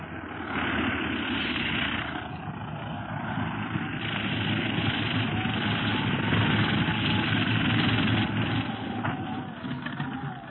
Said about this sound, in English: The plane is landing. We'd better step back.